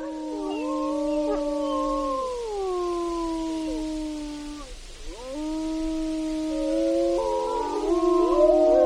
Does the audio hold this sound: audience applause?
no